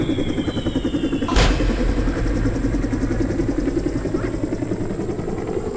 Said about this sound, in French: Non! Ne pars pas! Ne pars pas, hélicoptère! Reste! Reste!